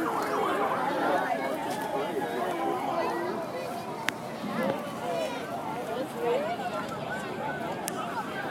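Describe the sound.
An EMT paramedics truck's siren wails steadily beneath a busy crowd of overlapping voices, shouts and chatter that run through the whole stretch at a fairly even loudness.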